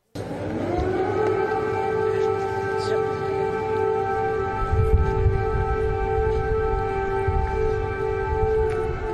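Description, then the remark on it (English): A sustained air raid siren wails steadily in Kyiv, Ukraine, during a visit by the US president, loud and drawn out with a slightly rising onset, over a low rumbling background of outdoor noise. “Air raid sirens are blaring, and Joe stays cool as a cucumber”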